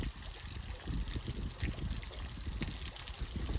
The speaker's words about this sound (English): Now, this is called the Extreme Survival Squeeze Bottle. Remember that filter It helps if you squeeze it.